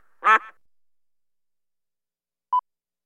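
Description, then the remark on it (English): A single loud duck quack, short and raspy, followed by about two seconds of silence and then one brief, thin electronic beep. “D is for duck.”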